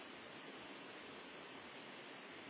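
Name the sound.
river water flowing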